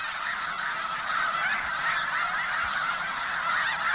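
A huge flock of snow geese honks continuously at sunset at the Bosque del Apache National Wildlife Refuge in central New Mexico, hundreds of overlapping calls blending into a dense, steady clamor at even loudness, with no voices.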